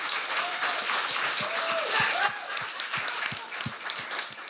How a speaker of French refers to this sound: Tout le monde, on donne une bonne main d'applaudissement